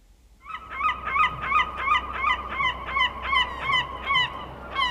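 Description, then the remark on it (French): A seagull calls over and over, about ten loud, nasal squawks in a steady rhythm, over a soft, rushing background noise. “Alors, Farid courut chercher Madame la Mouette.”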